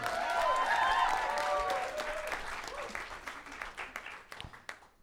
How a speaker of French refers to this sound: On l'applaudit, gang!